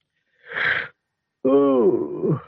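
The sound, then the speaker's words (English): A voice performs a loud, drawn-out yawn, starting with a breathy intake of air, then a brief pause, then a long, wavering, groaning exhale that trails off. “Oh, he yawned, stretched his arms, and tried to remember what he'd been dreaming about.”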